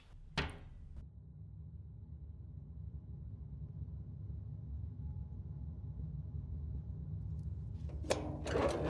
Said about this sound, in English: We'll just leave it on the shelf for tonight. Yes. Close the cupboard.